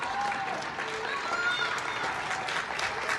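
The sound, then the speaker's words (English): Steady applause from many people clapping from inside their homes through opened windows at 9 p.m. during the pandemic, showing appreciation for frontline workers; a dense continuous patter with a few faint cheers or whistles rising above it, and no talking. “The sky is filled with the sound of applause as people cooped up in their homes show appreciation for those frontline workers in this new war.”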